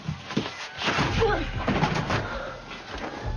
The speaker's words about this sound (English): The flight attendant pulls on a lever and pushes the exit door open.